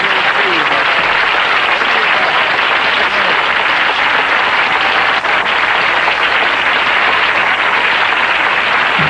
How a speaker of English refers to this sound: A lot of applause for Betty Davis. We're clapping for the charm.